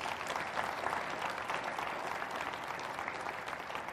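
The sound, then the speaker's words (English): A church audience claps together as a clap offering to God, steady, sustained applause, a dense wash of many hands that stays loud and even throughout without any voices standing out. “Would you give God a clap offering today?”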